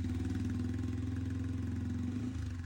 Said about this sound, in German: Deine 125er hört sich immer noch an wie ein Rasenmäher.